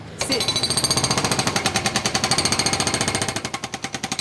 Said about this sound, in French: Ah ben ça, les sons du marteau-piqueur, pour le côté indus. Ah ben ouais, ouais. C'est les bruits du quotidien, ouais, ça influence forcément.